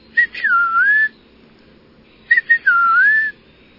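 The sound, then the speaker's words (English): An Eastern Peewee whistles its song twice, pretty much whistling out its name, 'peewee': each phrase a clear, slurred note that dips then rises, separated by a short pause. The bird sounds loud, with no talking. “The Eastern Peewee has a catchy tune, too. Pretty much whistling out its name, Peewee.”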